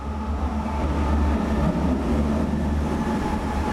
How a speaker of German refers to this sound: Morgens in der Schönhauser Allee, U-Bahnhof Sinnefelder Platz. Die U2 donnert alle paar Minuten vorbei, Menschen eilen in die umliegenden Büros und Läden.